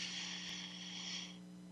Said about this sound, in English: I'd like to take 3 deep breaths in and out. So I'm taking a deep breath in and slowly breathing out through my mouth. And I'm taking another deep breath in